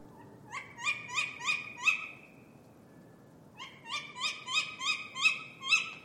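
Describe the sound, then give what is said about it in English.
Tawny owl calls in two bouts of five or six sharp, evenly spaced notes with a short pause between, clear against a faint background hiss. “The first in our owlery is the tawny owl.”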